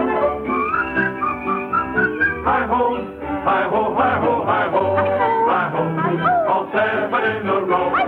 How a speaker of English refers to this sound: And while we dig, we always sing. When you dig, there ain't a better thing than a tune. Than a tune, you can whistle.